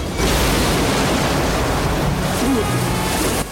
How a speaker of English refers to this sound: He lands in the swirling water below.